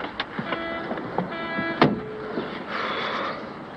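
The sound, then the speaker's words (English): A car pulls up by some railings and idles with a whirring electric motor whine, then a solid door clunk as someone gets in the back, followed by a steady hiss and rumble of the engine, with no talking. “Regan's car pulls up by some railings. Carter walks over to the car, looking in at Regan as he gets in the back.”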